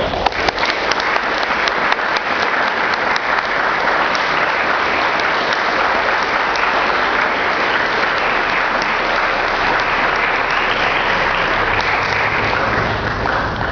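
Sustained audience applause fills the whole stretch, a dense, steady wash of many hands clapping at even loudness, continuous without any voices breaking through.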